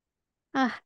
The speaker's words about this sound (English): snoring, I guess. He's snoring.